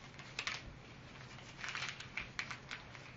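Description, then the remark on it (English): A sheet of paper being folded and creased from a paper hat into a boat: soft crinkling rustles in a few short bursts, quiet, with no one speaking. “What made the hat become a boat?”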